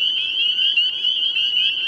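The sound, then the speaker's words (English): A dense chorus of tiny nocturnal spring peeper frogs at dusk at Horse Pond in Madison, Connecticut, their shrill high-pitched peeps overlapping into a steady, unbroken, loud wall of sound, with no voices. “It's dusk at Horse Pond in Madison, Connecticut, and the spring peepers are out in force. These tiny nocturnal frogs have large vocal sacs in their throats.”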